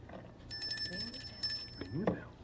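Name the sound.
bell ringing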